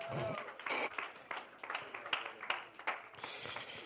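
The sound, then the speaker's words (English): A church audience claps for the Lord Jesus during a sermon, a dense, steady patter that lasts the whole few seconds, with scattered voices calling out over the applause. “Clap for the Lord Jesus.”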